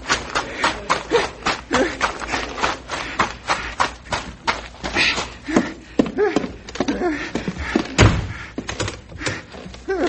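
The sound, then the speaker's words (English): A run of quick, hollow thumps like hurried steps on wood, then the heavy front door of a bank shuts with a solid thud, locking a grizzly bear inside, followed by a few more knocks. “There's the bear. Locked in the bank.”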